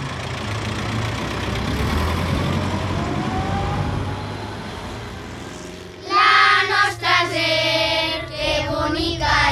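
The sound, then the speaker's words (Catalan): A car engine hums and road noise rumbles steadily for several seconds as the car drives off on a trip, then louder, bright tonal sounds break in over the engine near the end. “Vinga, que ja marxem.”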